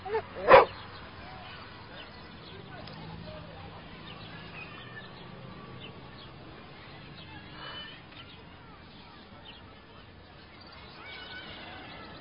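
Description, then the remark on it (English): A single sharp dog bark rings out loudly right at the start, then fades into a long stretch of low, murmuring background noise. “Look at the cute dog.”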